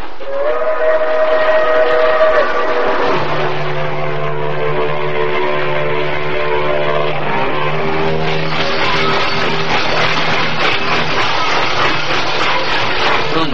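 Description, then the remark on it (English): A freight train rumbles loudly and steadily, its wheels and brakes letting out long, shifting metallic squeals and whistle-like tones as it rolls along and slows toward a stop. “I knew we had come to a stop. The freight train doors were slid open, and I could hear voices and the sound of water.”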